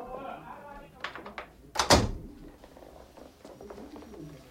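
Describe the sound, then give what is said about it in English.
A few quick clicks lead into a woman closing the door of a small hotel room, the door swinging shut with a single loud, heavy thud, followed by faint rustling; a low voice murmurs briefly at the start. “He walks into the small room and she closes the door.”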